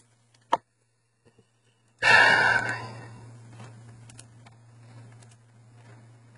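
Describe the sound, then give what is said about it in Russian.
After a short click, a sudden loud, harsh cough bursts out, then trails off into rough, breathy wheezing over a steady low electrical hum. “Вот и кашля, простите, анунчики.”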